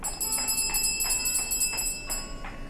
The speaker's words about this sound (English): Shall I ring the bell? Yes, but with finesse. We don't wish to disturb the entire household.